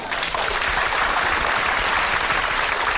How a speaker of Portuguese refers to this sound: Agradecemos a entrevista de hoje sobre cavaquinho e ukulele. Até mais, professor Clavissol Sustenido. Palmas para ele!